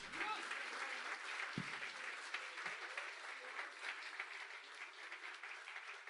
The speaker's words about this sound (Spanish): Denle un aplauso al que vive, aleluya.